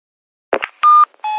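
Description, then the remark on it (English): A brief clatter, then two loud electronic tones in quick succession, each a steady bright beep lasting a fraction of a second, as an answering machine signals before recording a message. “A message on an answer phone.”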